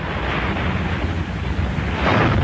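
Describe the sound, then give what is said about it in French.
A torpedo fired from tube 2 strikes an English ship of about 4000 tons midships: a loud, sustained roaring rumble of blast and churning water, swelling slightly toward the end, with no voices. “Treffe midships. Touché.”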